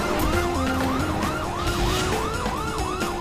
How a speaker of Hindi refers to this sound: Window नीचे कर, window नीचे कर। ए, पुलिस का सायरन सुनाई नहीं दे रहा है क्या?